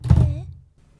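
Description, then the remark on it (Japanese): A light switch is flipped off to turn off the light before moving to bed, with a single dull thunk that fades quickly into a quiet low hum. No one speaks. “じゃあこれからベッドに移動するので、ちょっと と電気消す。”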